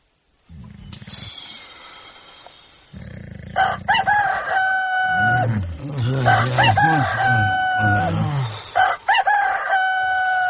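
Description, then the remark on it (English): A rooster-crow alarm sounds loudly several times in a row, its harsh, stretched calls rising and falling, with a low rumbling growl and background noise underneath and no one speaking. “Turn off that fizzing alarm.”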